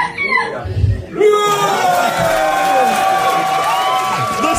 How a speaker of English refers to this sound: Listen to that crowd.